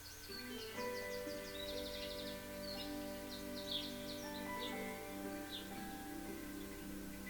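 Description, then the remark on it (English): Birds chirp and twitter in repeated bursts over a steady outdoor ambience on a riverbank among herons, a kingfisher and mallards, with several calls overlapping and no voices. “Either way, it was an idyllic setting amongst the herons, kingfisher and mallards.”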